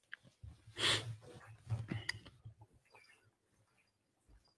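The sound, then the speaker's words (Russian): A cat named Kotya, who had slept all day, snoring softly: two raspy, breathy snores with a low rumbling undertone, each drawn in and let out, followed by quiet. “Это Котя весь день спала, и она храпит, как батя, который заснул за телеком.”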